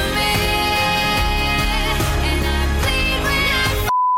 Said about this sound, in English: you slide in a beep and they become just moderately filthy.